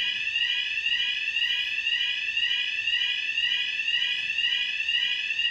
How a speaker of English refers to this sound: The fire alarm is getting the better of us.